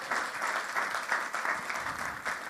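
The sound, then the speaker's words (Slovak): A crowd applauds steadily, a dense wash of many hands clapping at once, fairly loud and sustained without pause for the whole stretch, with no voices standing out; the applause is given to God after a Bible reading. “Môžeme si dať Bohu jeden veľký potlesk za to, čo pre nás spravil.”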